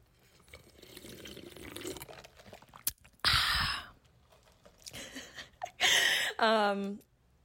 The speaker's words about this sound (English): I'm gonna take a sip of coffee.